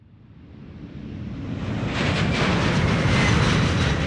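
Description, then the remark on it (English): A broad, rushing roar of an airplane in flight swells steadily louder over a few seconds, then holds as a dense, continuous drone with no voices. “and their father are travelling on an airplane.”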